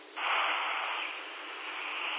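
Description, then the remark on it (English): A steady hiss of radio static from a speaker, starting with a slight jump in level and then holding as an even, band-limited rushing noise with no voices. “That's static, but, for some reason, it's just not, okay.”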